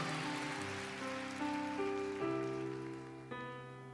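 A crowd applauds steadily in a dense, crackling wash of clapping, while sustained musical chords ring out and shift pitch a few times underneath. No one speaks.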